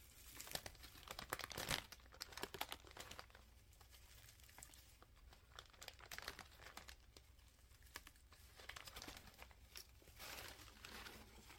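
Crisp paper crinkling and rustling, with dense bursts of crackly handling that ease off midway and pick up again toward the end; no voices.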